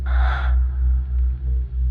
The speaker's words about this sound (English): A moan escapes your lips once more as you try to speak aloud, perhaps in shock or surprise. But the only sound you make is a soft, feminine gasp.